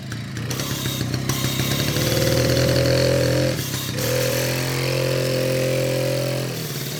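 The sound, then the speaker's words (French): A loud motor engine runs steadily, its deep droning hum holding for several seconds with a brief dip partway through before resuming at full strength. “Du moteur est infernal.”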